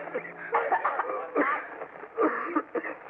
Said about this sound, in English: stumbling towards us like blind men and coughing. Those terrible, racking coughs that seemed to be tearing him to pieces.